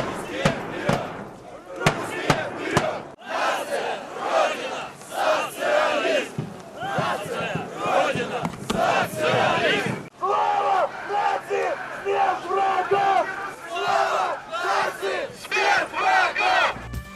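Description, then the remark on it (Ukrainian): A large crowd chants slogans in unison at a Russian march in a Russian city such as Moscow or St Petersburg, loud rhythmic shouted phrases repeating over and over, with brief pauses between bursts and a change in chant partway through. “Такі вигуки лунали сьогодні в російських містах.”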